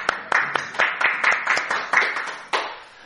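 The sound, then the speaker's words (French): People clap their hands for the winner of a contest of about thirty competitors, in a steady, fairly quick rhythm, about a dozen sharp, crisp claps over three seconds, with no talking, before the clapping stops. “On applaudit.”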